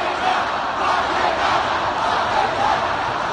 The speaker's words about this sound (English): If you can't hear it clearly, it was the crowd chanting, "Lock him up." We should note that Sanders did not encourage the crowd to say this. He did not participate in it. He didn't shut it down either.